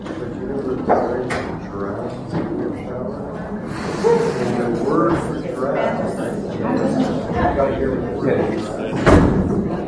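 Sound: doors being closed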